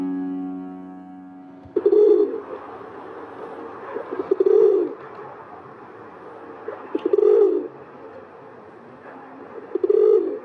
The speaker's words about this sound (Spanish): Paloma doméstica o paloma bravía, de nombre científico Columba livia, pertenece al orden de los columbiformes y a la familia Columbidae. La paloma bravía es un ave de 30 a 36 centímetros de largo, rechoncha, con la cabeza pequeña, patas cortas.